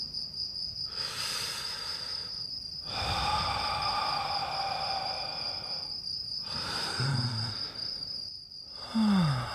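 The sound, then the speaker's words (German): Someone fakes sleep breathing with slow, exaggerated, drawn-out breaths, about four long inhales and exhales, fairly loud, over a steady high insect-like drone. “Wenn ich glauben soll, dass du schläfst, dann musst du auch atmen, okay?”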